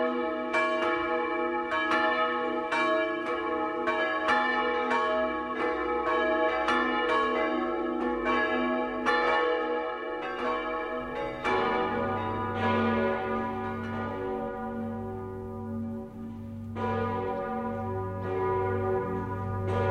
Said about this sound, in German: Das Geläute der Bergkirche in Altbach in Tirol geht über Einödhöfe und Dörfer und weist denen den Weg, die durch den tiefen Schnee zur Christmette kommen.